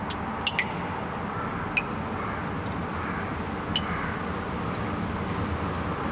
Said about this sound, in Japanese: あ、そうそう、塩釜神社にはもう一つ音の隠しスポットがあります。 こちらも遥か昔から存在する湧き水の音です。